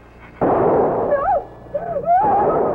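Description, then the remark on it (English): A single gunshot at 81 Brentwood Lane, where a fight was reported: a sudden loud bang that booms and rings out for nearly a second, followed by wavering, high-pitched cries and a renewed burst of harsh noise. “I pulled up, got out of the car, and I heard a shot.”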